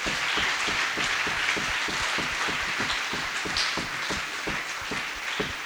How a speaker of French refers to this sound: Applaudis pour le Seigneur. Clap the Lord.